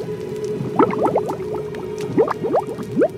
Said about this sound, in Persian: هنگامی که در جهنم افکنده شوند، صدای رعب‌انگیزش را بشنوند در حالی که پیوسته می جوشند.